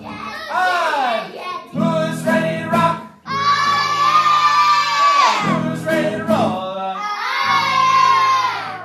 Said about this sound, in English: They go through the whole process up to when they're on stage in front of hundreds of screaming fans.